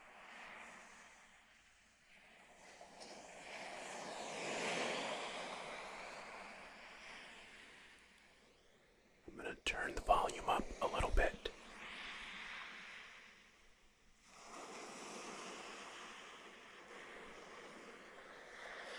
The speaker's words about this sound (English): Ocean sounds.